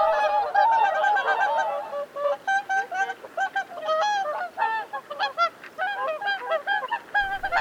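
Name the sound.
whooper swan calls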